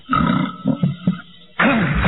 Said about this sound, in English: He burped. Like it's edited in there.